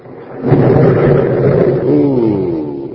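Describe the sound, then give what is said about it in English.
A deep rolling rumble of thunder from an approaching storm swells up after a quiet start and keeps grumbling steadily for a few seconds, loud and low, with no voices. “Ooh, sounds like there's going to be a storm, doesn't it?”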